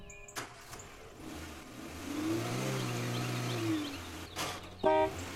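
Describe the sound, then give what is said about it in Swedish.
A car engine revs and pulls away as the Major's new chauffeur drives off, its droning hum rising and holding for a couple of seconds before fading, with a few sharp clunks before and after and no talking. “Majoren har fått sig en naturbegåvning bakom ratten.”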